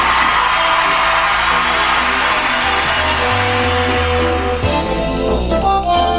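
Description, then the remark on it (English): A loud, continuous burst of crowd cheering and whooping, the intro sound effect for the Know Your Onion quiz segment, rolls on for about six seconds over a thumping musical backing, with no one speaking. “And why don't we do the intro and get the crowd in here?”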